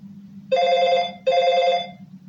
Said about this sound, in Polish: Nie zdziwiło jej, kiedy rozległ się sygnał domofonu.